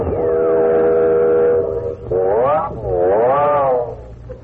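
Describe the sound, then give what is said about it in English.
A loud train whistle sounds alone as the train approaches a station: one long steady blast, then two shorter blasts that swoop up and down in pitch, with a low rumble underneath. “I wonder what that whistling's for. We must be coming to another station.”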